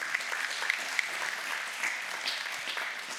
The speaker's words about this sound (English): Happy Mother's Day to all the mothers, grandmothers, great-grandmothers, mothers-to-be. We're so thankful. I think we can give them another round of applause. Let's do that.